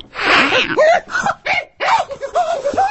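A voice imitates a fat farm cat angrily hissing at mice, opening with a harsh, breathy hiss, then spitting and growling in several short, loud bursts.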